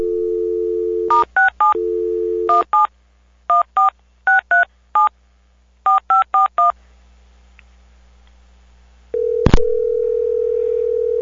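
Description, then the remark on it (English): A steady telephone dial tone gives way to quick bursts of touch-tone keypad beeps in several groups as a call is placed to an office. After a brief quiet pause, a click is followed by a ringing tone. No one speaks. “Okay, I'm going to click over, and when I come back, the phone will be ringing, and I'll be silent.”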